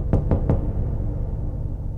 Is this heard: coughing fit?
no